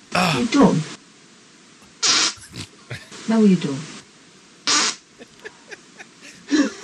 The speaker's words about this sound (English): He talks to her in fart. He answers in fart. That is so amazing.